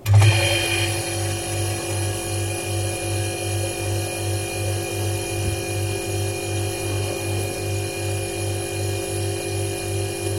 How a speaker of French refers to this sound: Mais je vous proposerai avant tout d'écouter un frigo. Alors, je ne sais pas ce que c'est que ce frigo. Mmh. On l'écoute et on en parle de cet objet sonore.